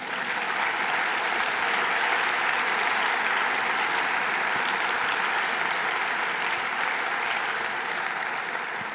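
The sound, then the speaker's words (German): A university lecture audience applauds steadily for about nine seconds, a dense, even wash of many hands clapping at a constant loudness with no voices. “Dafür meinen herzlichen Dank und dafür dürfen Sie ausnahmsweise in der Vorlesung klatschen, meine Damen und Herren.”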